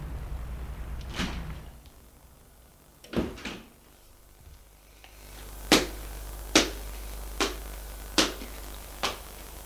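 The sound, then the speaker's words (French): A building's door lock clicks open after an intercom call, letting in a police officer and a boy: a few sharp mechanical clacks, then a steady series of five crisp clicks at roughly even intervals over a low hum, with no voices. “Ils entendent le déclic de la porte qui s'ouvre.”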